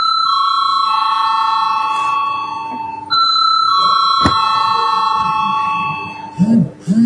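parliament voting bell ringing

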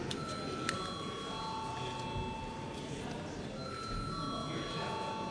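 parliament voting bell ringing

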